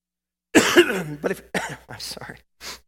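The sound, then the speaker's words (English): A man coughs several times in a loud burst, a harsh opening cough followed by a quick series of shorter hacking coughs and a final softer one. “I hope you'll forgive me this morning for coughing in the first place, but I hope you'll forgive me this morning.”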